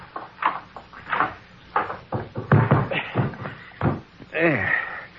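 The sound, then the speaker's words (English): A linen closet door is opened and then shut with a series of wooden knocks and clunks, ending in a creaky, squeaking swing. “Just open that closet door.”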